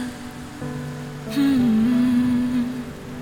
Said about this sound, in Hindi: ये पहली बारिश की बूंदें कुछ कहना चाहती है तुमसे, सुन जरा।